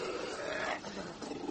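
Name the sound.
dog growling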